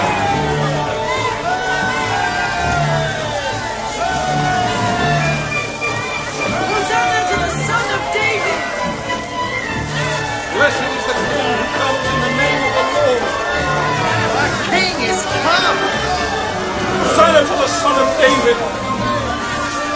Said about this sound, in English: As he rode along, the crowd rejoiced and praised God, proclaiming Jesus as king.